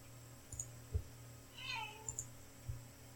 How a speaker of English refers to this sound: if you hear cats fighting, those that's brother and sister Stanley and Sandy, who've been fighting a lot recently